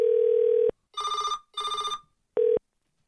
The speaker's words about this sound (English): I'm going to call up my own cell phone right now.